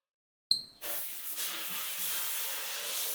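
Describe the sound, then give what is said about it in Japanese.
A shower is switched on with a brief metallic clink, then water sprays in a steady, bright hiss, rinsing foam off continuously without pause. No one speaks. “じゃあ、そろそろ泡流しちゃいますね。”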